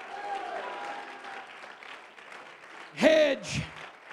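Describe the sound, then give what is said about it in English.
An audience claps steadily as one large crowd, with a loud, exuberant shout of hallelujah rising above the applause near the end, followed by a second, shorter cry. “Clap your hands and shout hallelujah.”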